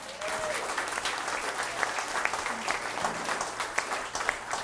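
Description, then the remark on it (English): An audience applauds steadily for those who shared that morning, dense overlapping claps at a fairly even level for several seconds, with no one speaking over it. “Can we get one more round of applause for all those who shared this morning?”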